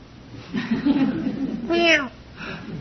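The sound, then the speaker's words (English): A person talks briefly, then a voice gives one drawn-out, wavering meow imitating a cat, clear, followed by a soft murmur. “And at about 12:30, there's this noise outside the window. Meow.”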